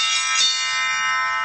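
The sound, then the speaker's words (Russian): Church bells ring out with a bright, sustained metallic tone; a fresh strike lands early and its shimmering overtones hang on and keep resonating steadily, with no voices present. “А колокола наши звонят.”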